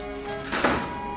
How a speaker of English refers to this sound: Bridget hears the sound of the door closing.